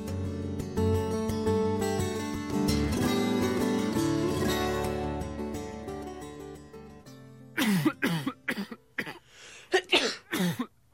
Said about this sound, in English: Coughing and wheezing and sneezing, oh my.